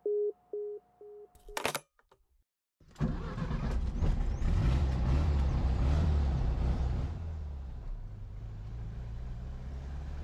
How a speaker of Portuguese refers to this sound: O trânsito começa a parar, um semáforo vermelho à frente. Estamos mais uma vez no cruzamento.